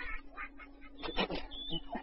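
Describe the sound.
A woman imitates a duck, making a quick series of short, nasal quacking bursts, fairly loud against a faint steady background hum.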